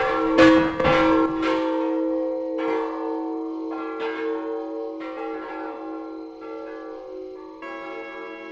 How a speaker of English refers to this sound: Chimes are up in here. They're oxygen acetylene bottles. I'll ring them for you.